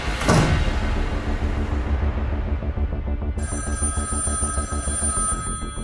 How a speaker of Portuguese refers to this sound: A 600 quilómetros dali, os telefones também não param.